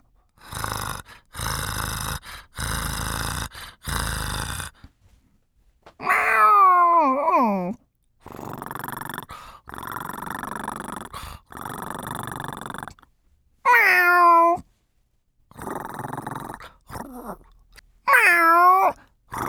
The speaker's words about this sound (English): Meow! Meow! Meow! Meow!